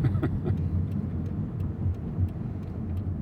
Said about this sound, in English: But that is the one time when I really do hear it, because I'm having to go from a very low... Right, very quickly, because the Beltline is... Right. Pretty fast traffic. Yeah, it is the only time I've heard this car protest.